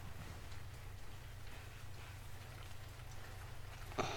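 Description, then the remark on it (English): Steady rain falls outside a window, a soft continuous patter with a low rumbling hum underneath, then one brief sharper tap near the end. No one speaks. “Come sit in front of the window. We can wrap the covers over us while we just watch the rain.”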